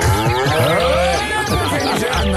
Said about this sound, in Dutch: Dus we lopen verder en ja hoor, we komen langs een weiland met koeien.